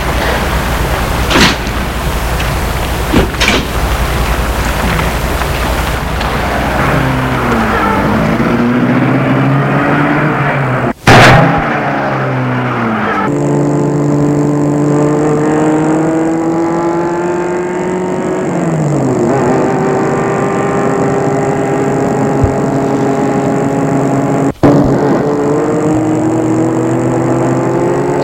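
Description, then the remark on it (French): A car drives through streets after work, its engine humming steadily and rising and falling in pitch as it speeds up and shifts gears, with a couple of sharp clicks along the way. “après son travail, entre dans sa voiture.”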